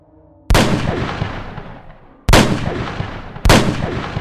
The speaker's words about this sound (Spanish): quien se ahogó en su propio grito, y la silenció con 3 tiros en la cabeza.